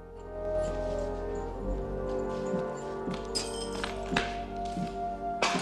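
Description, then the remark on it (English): Rocky punches a dusty old punching bag hanging on a chain in a derelict, long-empty gym: a series of dull, irregular thumps landing every second or so over a steady, sustained musical score. “He punches a dusty old bag on a chain.”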